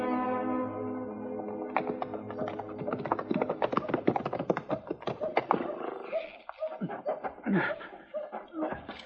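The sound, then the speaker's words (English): Horse hooves clip-clop in a brisk, uneven clatter of sharp knocks, fairly loud, after a brief sustained tonal sound at the start, then thinning toward the end. “Now, come on, Chamberlain. Get on your horse.”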